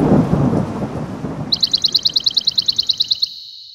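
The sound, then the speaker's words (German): A deep, rolling rumble of thunder from an approaching thunderstorm with a rainy hiss fades out over the first seconds, then a bright, rapid bird trill of about a dozen quick notes rings out. “Na, wir hören eben Dinge, die Menschenohren nicht hören können. Zum Beispiel aufziehende Gewitter und bringen uns rechtzeitig in Sicherheit.”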